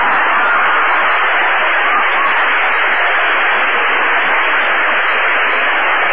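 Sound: audience applause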